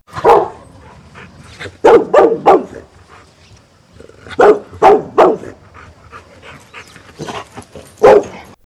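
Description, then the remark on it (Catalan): A dog barks loudly in short bursts, mostly in quick sets of three separated by brief pauses, with sharp yappy barks standing alone and no voices. “Al cap d'una estona, va passar un gos i li va dir...”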